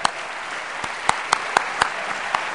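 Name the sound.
audience applause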